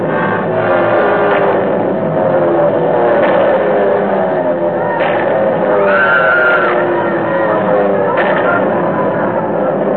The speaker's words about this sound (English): And then the planes came. German planes. They dropped out of the sky, swarmed down toward the road and the bus. It didn't seem possible that they were trying to kill us.